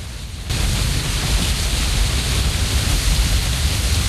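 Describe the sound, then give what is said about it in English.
A steady, dense roar of rushing water fills the space after a brief quieter moment at the start, a powerful waterfall on a river heard from a tunnel running underneath the falls, constant and unbroken. “Ducking underneath a rock at the edge of the river, the group proceeds along a tunnel leading them underneath the falls themselves.”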